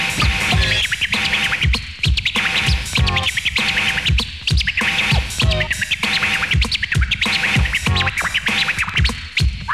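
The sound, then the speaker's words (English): Rapid turntable scratches chirp in quick, repeated bursts over a steady beat, their rising and falling pitch sweeps mimicking bird tweets, loud and continuous throughout. “Now make it sound like a bird.”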